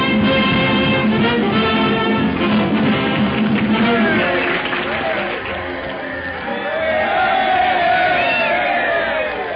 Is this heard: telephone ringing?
no